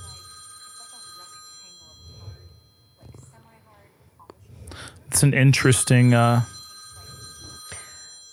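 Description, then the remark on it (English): A telephone belonging to one of the people present rings loudly in a couple of bright, trilling bursts near the middle, with a person speaking quietly before and after the ringing. “Why is the phone ringing? I don't know. It's in the background.”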